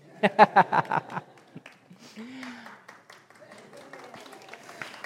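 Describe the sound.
A lone person claps about seven times in a quick, steady rhythm, loud and sharp. The clapping stops after about a second, and soft murmuring voices follow.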